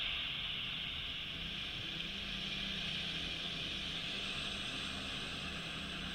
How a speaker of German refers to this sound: Das Chill ist so ein bisschen, ich glaube, so ein Regenprasseln. Und da ist so ein Ton darunter, so ein ruhiger.